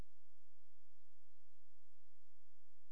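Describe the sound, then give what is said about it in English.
A microwave oven hums steadily while cooking, a low, constant drone with a faint hiss and a thin, high whine. It's quiet, with no voices and no change. “Never mind that humming noise, it's a microwave.”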